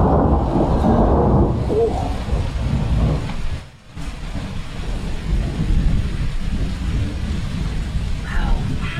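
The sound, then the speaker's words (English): Steady California rain pours outside a window while deep thunder rumbles and rolls continuously underneath with lightning, briefly dropping away for a moment before the downpour and low rumbling resume at full strength. “I think it'd be nice to end this show with just a little sound effects of real California rain.”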